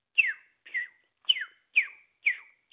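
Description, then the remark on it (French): A person whistles an imitation of a bird call: five short, high notes that slide downward, repeated at a steady, even pace, loud and clear with no talking. “Alors là, je vais vous imiter ça.”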